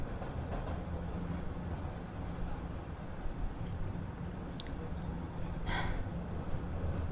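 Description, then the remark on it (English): A steady low rumble of a train car rocking along the tracks, with a constant rattling drone and a couple of brief metallic squeals and clanks partway through. “You and I, as I've said, we're seasoned strap hangers. We know how to ride trains, bend at the knees, stay light on your feet, keep them planted well apart.”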